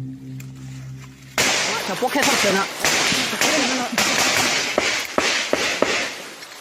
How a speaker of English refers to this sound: But the spell is broken at sunset. sudden bursts of gunfire ring out very nearby. Students dive under their desk. It turns out it's just a drill, but a reminder that across Myanmar, war is still raging.